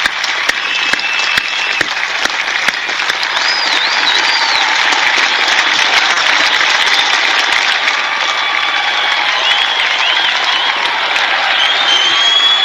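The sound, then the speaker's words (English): A huge crowd at the inauguration of Donald J. Trump as 45th President of the United States applauds and cheers continuously, a loud, dense wash of clapping with whoops and shouts rising through it, steady and sustained for the whole stretch without any speech. “And the crowd, huge crowd.”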